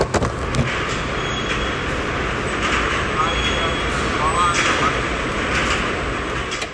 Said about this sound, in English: And Michelle from Michigan in the US likes the sound of her workplace, which is an automotive assembly plant.